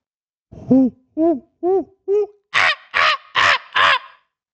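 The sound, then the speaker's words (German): A person imitates monkey calls: four hooting whoops in a steady rhythm, then four louder, harsher screeches at the same pace, with no other talking. “Aber ich bin mir ziemlich sicher, es soll ein Affe sein. Ja, das ist ein Affe.”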